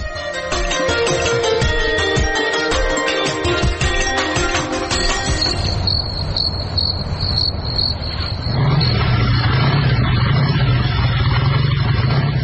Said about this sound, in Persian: کماندان سب، اونم موتورسیکل آمد، حتما مواد مخدر بار کرده.